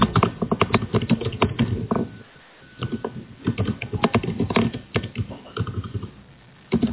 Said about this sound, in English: I'm off mute and I can hear typing furiously. So if you've just come off mute, can you go back on mute? The operator says that's coming from the AC room, so somebody in the Adobe Connect room.